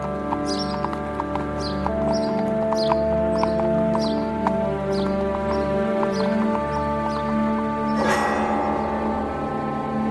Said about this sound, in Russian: Возчик в рваном армяке, в лаптях, закрутил вожжами, и плохая лошаденка потащила шагом телегу из лавры в поле.